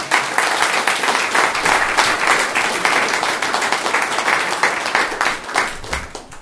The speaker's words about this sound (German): Und ich möchte jetzt einfach auch Danke sagen an die Mitarbeiter, an unsere Kids, an unsere Jugendlichen, an alle, die da fleißig mitgeholfen haben, dass dies hier so sein darf. Und ich glaube, das ist auch ein Beifall wert.